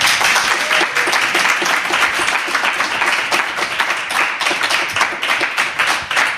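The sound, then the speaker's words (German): Loud, sustained applause from an audience welcoming a graphic novel author as a guest, a dense wash of many hands clapping at once with steady intensity for several seconds and no voices standing out. “Ich freue mich wie Bolle und bitte Sie um einen tosenden Applaus.”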